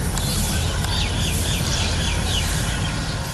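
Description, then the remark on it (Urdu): Repeated short, high bird chirps ring out over a dense, steady wash of background noise, several birds calling on and off throughout without any voices, in a large aviary at Safari Zoo Lahore that holds more than 200 birds of various colours and breeds. “Safari زو لاہور میں پرندوں کی ایک بڑی ایوری ہے جس میں موجود مختلف رنگوں نسل کے 200 سے زائد پرندے یہاں آنے والوں کی توجہ کا مرکز بنتے ہیں.”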